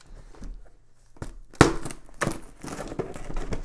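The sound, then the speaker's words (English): A package sent by David Fishkind is slit open with keys: a sharp snap followed by scratchy tearing and crinkling of tape and cardboard in uneven bursts, moderately loud, with no talking. “we got a package from Mr. David Fishkind, and we're going to open that.”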